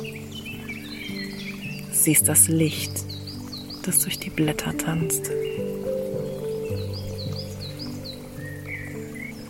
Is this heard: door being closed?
no